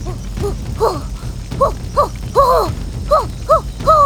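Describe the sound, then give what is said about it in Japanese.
A run of short, wavering yelps and howls, about eight in quick succession, each bending up and down in pitch, a creature howling at a campfire, rising loud over the fire's steady low crackling rumble. “キャンプファイヤーに向かって吠えてる。”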